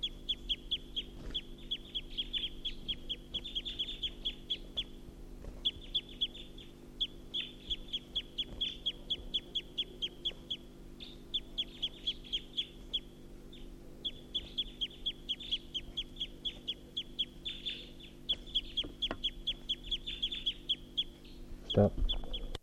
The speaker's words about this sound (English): So recording, this is a wild bird perched at the tall pine.